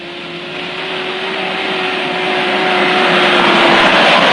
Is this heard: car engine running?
yes